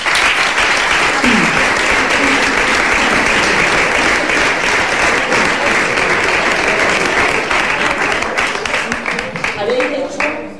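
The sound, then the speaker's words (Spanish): A large audience at the presentation of the Huelva Carnival (Carnaval Colombino) bursts into loud, dense applause in tribute to deceased carnival members, holding steady for about ten seconds, with a few faint voices and cheers rising from the crowd before it starts to fade. “Un aplauso para todos ellos.”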